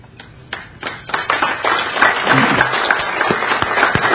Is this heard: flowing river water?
no